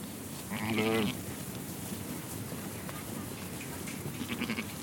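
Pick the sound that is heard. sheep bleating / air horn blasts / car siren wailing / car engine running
sheep bleating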